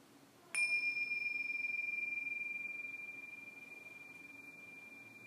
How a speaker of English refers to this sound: And at the sounding of the bells, let's bring ourselves back to a sense of the breath breathing itself.